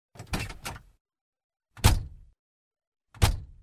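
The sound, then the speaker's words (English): Car doors slam shut one after another as a family gets out of their car at a busy park: a quick double thunk, then two more single heavy slams spaced about a second and a half apart, each a loud, low, solid thud. “They all got out of the car.”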